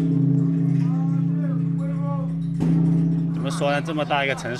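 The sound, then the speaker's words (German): A huge bell at the Crane Pagoda in southern China, struck for good luck by a 36-year-old man with a wooden log hanging from a rope on a warm late-summer morning, rings with a deep, sustained hum; a single heavy strike midway renews the booming tone. Indistinct voices rise over it toward the end. “schlägt mit einem Holzbaumstamm, der an einem Seil hängt, an eine riesige Glocke.”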